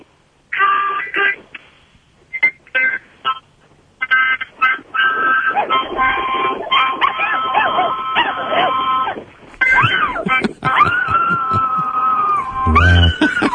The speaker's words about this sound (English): My dog can do it to harmonica, guitar, anything. Oh, that's cool, dude. Play a little harmonica for that dog. I want to hear that dog sing.